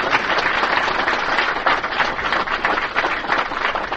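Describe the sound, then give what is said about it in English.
An audience at Birdland applauds a performer steadily for several seconds, a dense, even wash of many hands clapping at once with no voices breaking through. “Oh, well, I think we should make the guy feel real at ease and give him a big round of applause.”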